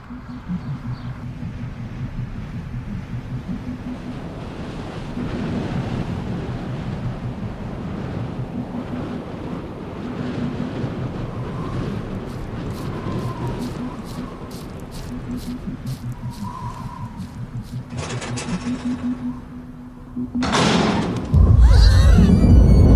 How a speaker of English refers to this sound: It was a dark and stormy night, just like this one.